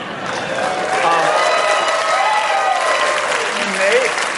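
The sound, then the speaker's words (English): A crowd applauds steadily for over four seconds, a dense, even wash of clapping with a few voices and faint cheers rising through it. “Wait, I think the Rockets game was the biggest applause line of the draft so far.”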